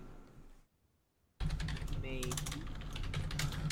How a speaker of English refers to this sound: You hear me typing.